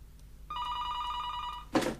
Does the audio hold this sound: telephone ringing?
yes